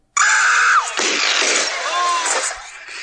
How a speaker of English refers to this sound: And there it is. That was a blaster? Yes, it was. But it had like background. There was noise. Yeah, it's I'm not gonna it's from a movie, so that's you're gonna hear screaming.